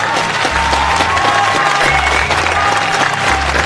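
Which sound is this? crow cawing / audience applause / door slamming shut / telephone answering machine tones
audience applause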